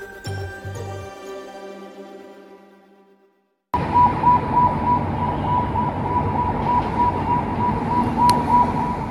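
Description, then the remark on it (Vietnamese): A fading tonal chime gives way to an air raid siren in central Beirut, Lebanon, sounding after Israeli airstrikes, holding a steady, sustained wail over a dense wash of outdoor city noise, loud and continuous for several seconds. “Tiếng còi báo động ở thủ đô Lebanon vang lên sau các cuộc không kích của Israel.”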